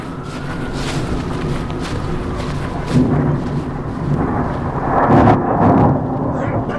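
A steady wash of light rain hisses throughout, over a low rumbling background that swells briefly twice. No one speaks.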